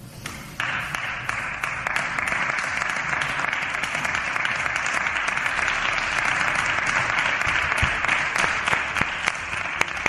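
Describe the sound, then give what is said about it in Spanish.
Sustained, dense applause from a large crowd in a parliamentary plenary session, an ovation for the cleaning lady; many hands clapping in a steady roar that stays loud and even for about ten seconds with no voices standing out. “Para ella ha sido la gran ovación de un pleno hoy sin polémicas políticas.”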